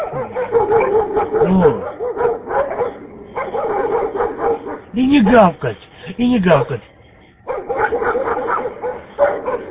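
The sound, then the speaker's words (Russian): A pack of stray dogs gathered by a car bark and yelp in repeated loud bursts throughout, with a person talking over the noise. “Вот возле машины собралась стая бездомных собак.”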